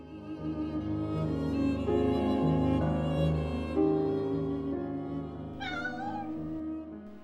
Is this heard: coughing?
no